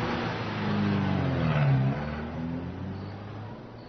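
A car engine revs up loudly, its pitch climbing and then easing, before the motor noise fades slightly as the vehicle seems to pull away; no voices.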